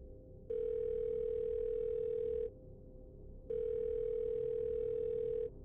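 Two long, steady ringback tones from a phone held to a woman's right ear on an outgoing call made at a farm, each lasting about two seconds with a short silent pause between them, over faint background hiss.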